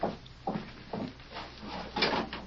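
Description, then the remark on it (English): A door is opened with a series of wooden clunks and rattles, about five evenly spaced knocks of sound over a couple of seconds, fairly quiet, with no voices. “There's only someone at the door.”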